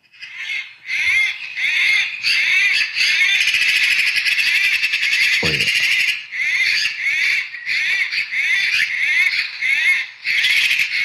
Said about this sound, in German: Ich habe das Geräusch aufgenommen. Oh. Ich habe dann da mit dem Handy wirklich. Welches Geräusch hast du aufgenommen? Ja, als die Elster sich geprügelt haben.